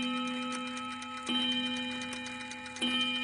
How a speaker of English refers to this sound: It's after dinner now, and the clock in the hall strikes 8.